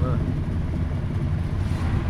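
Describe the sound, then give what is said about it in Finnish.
A vintage Cadillac with a roughly 6–7 litre engine starts and rumbles steadily and loudly, a deep continuous low growl that holds without pause for a couple of seconds. “Ja nyt lähtee käyntiin Kekkosen Cadillac. Useampi litra Uluvoa meinaa, tai ei Uluvoa, vaan rytisee jo.”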